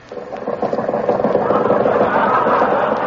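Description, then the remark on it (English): The engine of an old Maxwell car fitted with wings sputters and chugs, building quickly from a soft start into a steady, rattling, mid-pitched wheeze that keeps running for about three seconds with no talk over it. “It's my Maxwell. Only it's got wings on it.”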